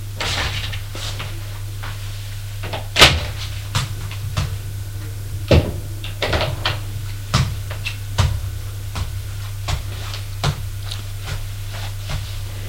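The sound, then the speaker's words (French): Scattered sharp knocks on a door and clunks as it is opened, irregularly spaced over several seconds, set against a steady low electrical hum with no talking. “On a frappé à la porte.”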